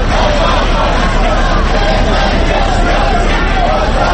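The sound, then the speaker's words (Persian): A large crowd of Iranian protesters roars on 47th Street by United Nations headquarters in New York, protesting against the Iranian president's visit. It is a dense, continuous wash of many overlapping voices, loud and unbroken throughout, with no single speaker standing out. “فریادهای اعتراض ایرانیان در خیابان 47 که خیابانی عمود بر خیابان 1 مقر سازمان ملل متحد است به خوبی در محبتی بزرگ این سازمان جهانی شنیده می شد و تردیدی نیست که رئیس جمهوری اسلامی هم حتی برای لحظه ای این فریادهای اعتراض مخالفانش را شنیده است.”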